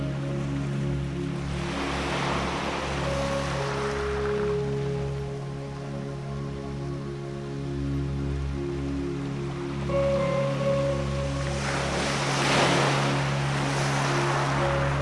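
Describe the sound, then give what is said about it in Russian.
Ocean surf rolls in with two broad, hissing wave surges a few seconds apart, over a steady low rumble of water and wind, with no one speaking. “Представьте перед собой бескрайний океан, полный бесконечного богатства и изобилия.”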